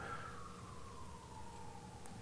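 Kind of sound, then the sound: signal or alarm, emergency vehicle siren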